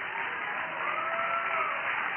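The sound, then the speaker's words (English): An audience claps and shouts to God together, a dense, steady wash of applause with raised voices and cheers mixed in, holding at an even loudness throughout. “Would you clap your hands again and shout to God?”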